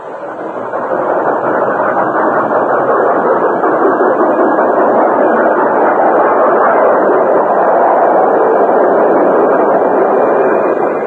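A train pulling into a railroad station rolls with a loud, steady rumble and clatter that holds at an even level for about ten seconds. No voices are heard.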